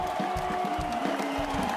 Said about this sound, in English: Well, some applause this evening. Amazing. I love applause.